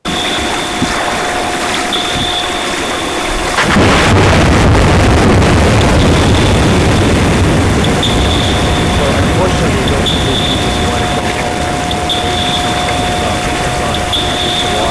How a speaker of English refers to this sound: Here's another problem we're having is a seismic survey is looking for fossil fuel in the ocean. And this is just one.